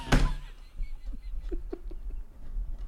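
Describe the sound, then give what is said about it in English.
A gorilla bangs and smashes an object: one loud, sharp impact right at the start, followed by a scattering of softer thuds and knocks over a low, rumbling background. “This gorilla is. Taking it. Banging this, dude.”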